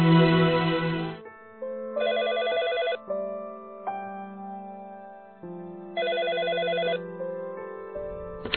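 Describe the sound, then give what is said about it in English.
An electronic telephone ringtone plays in a repeating melodic pattern, two bright trilling bursts separated by steady tones, fairly loud with no voices, as a woman working at her desk in her office receives a phone call. “is working at her desk when she receives a phone call.”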